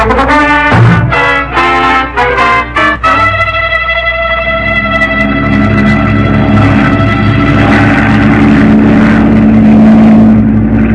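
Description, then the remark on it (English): A flying boat's engine sputters and catches in the first few seconds, then settles into a loud, steady droning roar that continues to the end, with no voices. “How does anybody fish from a flying boat? And at 5 a.m. in the morning?”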